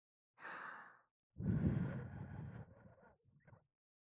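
Breathy exhalations blown into a listener's ear: a short airy puff, then a longer, heavier rush of warm breath that tapers off into a few softer trailing wisps.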